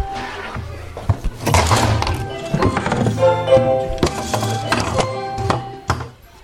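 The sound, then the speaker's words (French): A busy clatter of wooden chairs being lifted and set onto classroom desks at the end of lessons, with repeated hollow thunks and scrapes overlapping, a faint murmur of voices mixed in. “C'est la fin des cours, montez des chaises.”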